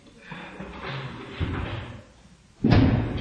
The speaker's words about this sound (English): Would you mind opening that door for a little bit? It's burning up. I'd appreciate it if you would.